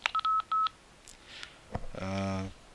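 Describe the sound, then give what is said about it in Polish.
A voice recorder gives three short, steady electronic beeps at one mid pitch in quick succession as recording is stopped and its signal LED goes out, followed by rustling handling noise and a brief burst of a voice. “Piknął dwukrotnie, właściwie nawet trzykrotnie. Nagrywanie zostało zatrzymane.”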